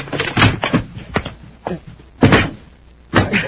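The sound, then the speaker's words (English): A door slams with a series of loud, heavy bangs and thuds in irregular bursts, as it is shoved and forced shut to keep a robot out. No one speaks. “Shut the door. Try to keep it out.”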